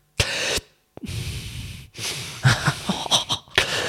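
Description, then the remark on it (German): A voice imitates someone drawing on a cigarette: a few breathy, hissing inhales and puffs, some sharp and wheezy, separated by brief pauses, with no words spoken. “Immer so eingeatmet, so ab und zu mal.”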